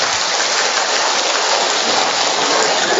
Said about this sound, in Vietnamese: Cho một tràng pháo tay thật lớn thưa anh chị em.